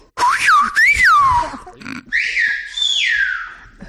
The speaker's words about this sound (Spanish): Para emitir un silbido, es decir, ¿usted sabe hablar? Sí, claro, es un lenguaje silbado. ¿Usted podría decirle algo y que él le conteste?